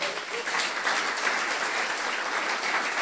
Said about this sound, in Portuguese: Uma salva de palmas para esses artistas aqui.